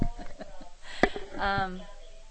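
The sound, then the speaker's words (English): A phone rings with a brief electronic tone, heard once near the end after some indistinct, voice-like sounds and a sharp click, moderately loud. “And now my phone is ringing.”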